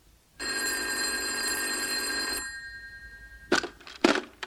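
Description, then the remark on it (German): A loud, buzzy telephone bell rings once for about two seconds, then stops, followed by a couple of brief clattering sounds, like a receiver being picked up; a telephone in a castle. “Da steht doch Ritter Lancelot 10 Zentimeter neben seinem Knappen und beide haben ein Telefon in der Hand.”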